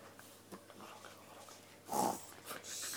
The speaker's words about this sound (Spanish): La ovejita roncaba dulcemente.